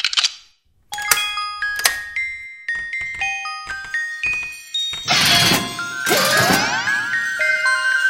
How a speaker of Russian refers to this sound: Так ведут себя язычки в музыкальной шкатулке.